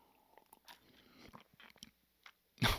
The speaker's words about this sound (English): After I take another sip of Pusser's gunpowder rum.